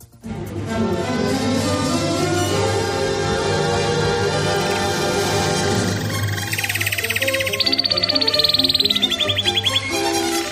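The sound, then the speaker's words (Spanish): A short Spanish radio segment jingle for "El trino" with steady sustained tones, then bright rapid trilling chirps like birdsong rising over the music in the second half, loud, with no talking. “El trino del conciso, confidencial,”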